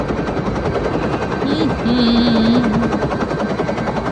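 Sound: helicopter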